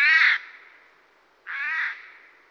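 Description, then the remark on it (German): A Eurasian jay gives two harsh, rasping screeches, each about half a second long, separated by a pause of about a second. They are loud, with no talking. “Die gleiche Art der Vorratshaltung praktiziert auch ein Vogel, der Eichelhäher.”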